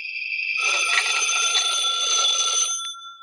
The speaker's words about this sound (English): When I got home, the phone was ringing.